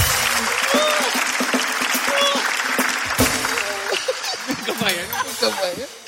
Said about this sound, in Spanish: Oye, un fuerte aplauso para acá, el abandonador de novias.